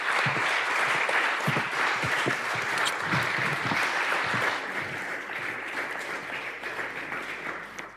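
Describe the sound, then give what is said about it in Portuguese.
A crowd bursts into sustained applause, a dense wash of many hands clapping at a steady loud level that eases slightly in the second half and tapers at the end. “Vamos recebê-la e para já eu quero que lhe dê um grande salva de palmas pelo esforço que ela fez para estar aqui.”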